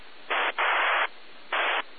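Amateur radio static on the 2-metre band hisses steadily, swelling three times into loud, harsh bursts of noise before dropping back to a softer hiss; a weak station sits far down in the noise and no voice comes through clearly.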